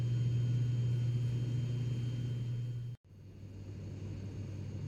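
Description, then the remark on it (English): A steady, loud airplane cabin rumble in flight: a constant low drone with a strong humming tone underneath, briefly cutting out once before resuming unchanged. No one speaks. “Look outside. We're in the air.”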